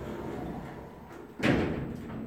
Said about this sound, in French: Fermeture des portes.